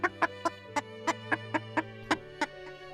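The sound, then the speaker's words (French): A hen clucks in a quick, fairly even series of about ten short, sharp clucks, clear over a steady low tonal hum. “Le chat fit et la poule fit.”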